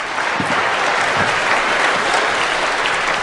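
A crowd claps steadily and warmly, a dense, even wash of many hands that holds at a strong level throughout without any talking over it.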